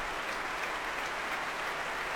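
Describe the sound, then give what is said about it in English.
A large concert audience at the Royal Albert Hall applauds steadily, a dense, continuous wash of many hands clapping at an even, sustained level with no voices breaking through, greeting an orchestra making its debut there as conductor Marin Alsop has players stand. “And just listen to that reception here at the Royal Albert Hall.”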